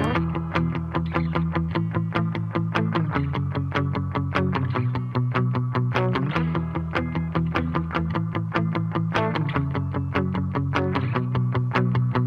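A full band plays a steady, upbeat rock song with driving drums and bass under bright, effect-laden electric guitars, loud and continuous with a regular beat throughout.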